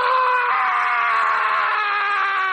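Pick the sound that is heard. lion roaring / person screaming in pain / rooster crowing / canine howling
person screaming in pain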